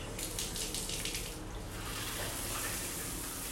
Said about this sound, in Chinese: 很烫哦，我先把水龙头关起来哦。